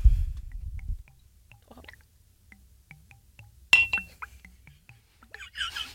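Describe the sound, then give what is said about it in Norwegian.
With the microphone held up to a glass, a single sharp glass clink rings out close to the microphone, its bright tone lingering briefly, surrounded by faint ticks and soft handling noise after a low rumble at the start. “Mikrofonen, vær så snill. Til glasset.”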